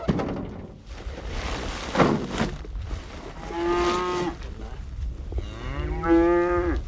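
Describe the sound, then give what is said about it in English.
Several cattle on a ranch in the Davis Mountains of West Texas moo in overlapping calls as they circle a pickup while sacks of organic cattle feed are unloaded, two long harmonic bellows standing out near the end, over a noisy outdoor background with shuffling and thuds. “The cows circle around expectantly, like children around an ice cream truck.”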